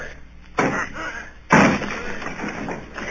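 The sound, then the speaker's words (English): Two heavy, booming blows strike the door of a house about a second apart, each resounding and fading into a rumbling, noisy background as the men surrounding the house try to batter it down. “Down with the door, then!”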